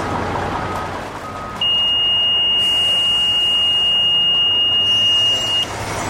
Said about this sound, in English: she shows what happens when something noticeably radioactive comes through the gate. She triggers the alarm with a small piece of cesium-137 in a Ziploc bag.